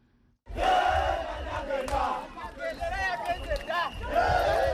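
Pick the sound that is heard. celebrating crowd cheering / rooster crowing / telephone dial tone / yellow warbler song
celebrating crowd cheering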